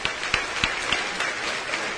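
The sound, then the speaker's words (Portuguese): An audience applauds, a dense steady patter of many hands clapping at moderate loudness, with a few sharper claps standing out at a regular pace. “Irmãos, olhando para esta moça, nós não podemos aplaudir a Deus e celebrar seu nome.”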